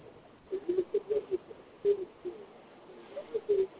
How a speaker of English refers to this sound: I'm sitting here typing something on the phone.